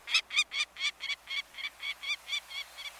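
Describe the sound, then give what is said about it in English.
A peregrine falcon gives a rapid, steady series of about a dozen harsh, scratchy cackling notes, clear, with no other sounds around it. “The mid-sized peregrine falcon nests in some locales across the country”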